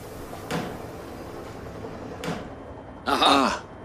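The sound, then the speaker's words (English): Someone bangs on a malfunctioning device that won't show anything unless hit, to make it work: three separate hard knocks spaced a second or two apart, the last one louder and longer with a rattling, clattering tail, over a quiet hum. “You have to keep hitting it all the time till it works.”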